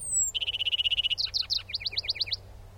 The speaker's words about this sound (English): In summer, in western Arkansas, it's probably a lark sparrow's. Some folks know it as the quail bird.